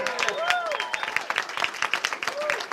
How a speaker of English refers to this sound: I also want to thank our great chairman, Nick Langworthy. Let's give Nick a big round of applause.